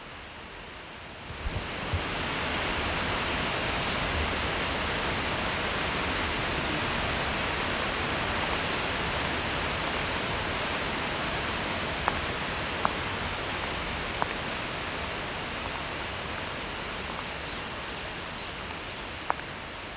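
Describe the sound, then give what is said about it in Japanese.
A powerful waterfall, a whole river dropping from the top of a sheer rock face, roars steadily into its plunge pool, a dense, unbroken wash of crashing water that swells in after a quiet start and holds loud throughout, with a few faint clicks. “少し滝壺から離れましょう。”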